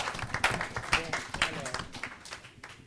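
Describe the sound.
An audience applauds a guest with a dense, steady patter of clapping for about three seconds, with a few voices cheering or calling out underneath.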